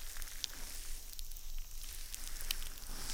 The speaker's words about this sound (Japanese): 泡が弾けてます。シュワシュワシュワシュワ。